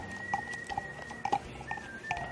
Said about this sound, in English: Do you hear whistling? Yes, I do. That's so weird. I always hear that song when I'm cooking.